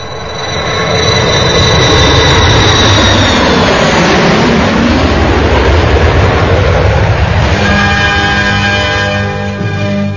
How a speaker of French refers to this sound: C'est bon, tu peux te poser avec l'avion, c'est clair en bas.